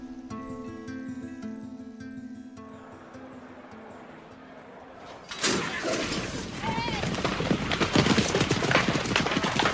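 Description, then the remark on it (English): A steady musical tone plays for several seconds, then the loud galloping hooves of a horse burst in with a rapid, pounding rhythm over a dense wash of noise that carries on to the end. “In your imagination, you can see the slow-motion images of the rippling muscles, the pounding hooves, the sunshine reflecting on their gleaming coats.”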